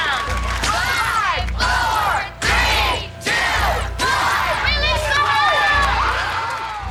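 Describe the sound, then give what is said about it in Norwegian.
A loud audience shouts in unison in rhythmic bursts, counting down together as two adults lay a boy smeared with peanut butter on the floor, then breaks into sustained cheering and yelling. “To av de voksne tar tak I hver sin arm på gutten og legger ham rolig ned på gulvet, og publikum begynner å telle ned.”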